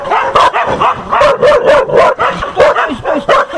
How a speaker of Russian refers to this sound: Не прошел и 10 метров, как путь преградили три крупные собаки, ростом выше человеческого колена. Настроены они явно недружелюбно. Оскаленные клыки, недобрый взгляд и бешеный лай.